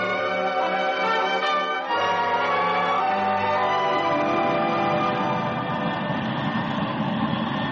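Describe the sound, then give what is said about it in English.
The J-65 Sapphire engine of an Air Force Thunderflash jet fighter easing down a concrete taxi strip next to runway 14 with the canopy back: a loud, steady whine with layered tones gives way to a broader, rushing roar as the engine builds. No voices are heard. “In the cockpit of the Thunderflash, Air Force 394, Rick Johnson. You ease it down the concrete taxi strip next to runway 14”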